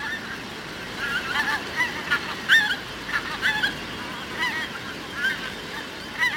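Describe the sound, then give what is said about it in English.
A skein of pink-footed geese flying over Fala Moor in autumn, honking, many overlapping calls rising and falling, continuous chatter with louder bursts as the skein passes, no voices. “2% of the world's population of pink-footed geese come to overwinter on the moor.”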